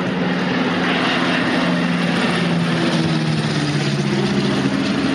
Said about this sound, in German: Manchmal ist ein Flugzeug pro Minute gelandet. Rosinenbomber haben die Leute zu den Flugzeugen gesagt, obwohl Rosinen eigentlich gar nicht so oft gebracht wurden.